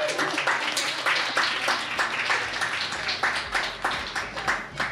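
A crowd applauds steadily, many hands clapping in a dense, crackling wash that holds at a fairly even loudness throughout with no voices standing out.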